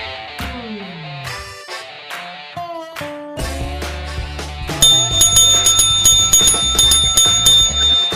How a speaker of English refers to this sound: It's a good strong bell. It is. I like it.